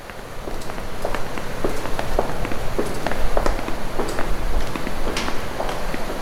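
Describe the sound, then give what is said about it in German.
Steady footsteps tap across a hard surface at an even walking pace, echoing softly off walls, with a soft, continuous hiss of background noise beneath them and no voices. “Eure Schritte hallen leise von den Wänden wider.”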